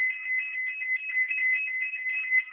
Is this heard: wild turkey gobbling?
no